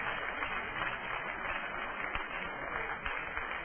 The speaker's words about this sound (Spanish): Denle un aplauso, el Señor puede sentarse.